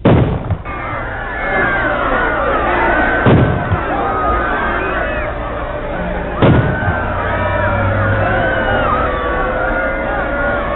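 A panicked crowd screams and shouts continuously at the shooting of the President of the United States on November 22, 1963, many voices wailing at once, while three sharp, loud bangs break through the commotion at steady intervals.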